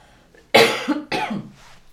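human body sound, coughing

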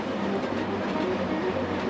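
vehicle, passing train on rails

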